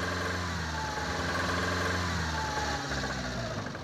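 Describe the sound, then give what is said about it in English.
A car engine, started by turning the key in the ignition, runs loudly and unevenly at idle, a steady low rumble with a rough, knocking vibration that continues throughout, with no voices. “It's rough, fitful, loud, but the engine roars to life.”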